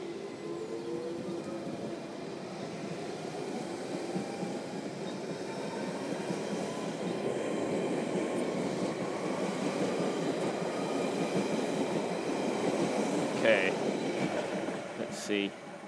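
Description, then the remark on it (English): A London Underground train rumbles along the Central Line, a steady roar that grows gradually louder, with faint metallic whines and squeals riding over the low rumble. “So we wait here and hope that an Ealing train comes down the line at some point.”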